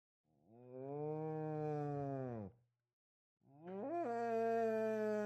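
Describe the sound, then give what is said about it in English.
A person imitates a cow with two long, low, droning moos separated by a short pause, the second rising slightly in pitch; loud, with no other sounds. “Can you do a cow?”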